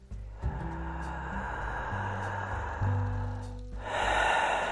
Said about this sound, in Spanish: Puedes tomar una nueva respiración profunda.